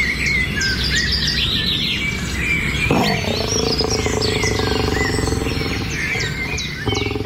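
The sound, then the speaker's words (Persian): Wild birds in Afghanistan, a habitat of rare animals and birds, chirp and tweet continuously in a dense, overlapping chorus of high, quick calls, with a lower, rougher animal-like sound joining partway through. No one speaks. “افغانستان زیستگاه حیوانات و پرندگان نادر است که در هیچ منطقه جهان نمیتوان آن را پیدا کرد، اما این حیوانات و پرندگان در برخی موارد یا از بین رفتن یا با خطر جدی انقراض مواجه هستند.”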